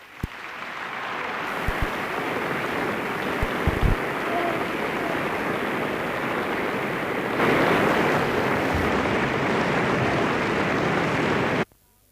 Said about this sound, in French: De loin, vos applaudissements peuvent ressembler à la pluie.